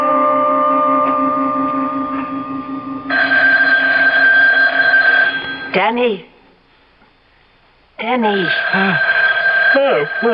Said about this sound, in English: The phone, it's ringing. Well, what time is it? It's 3:30 in the morning. Well, who could be calling us now?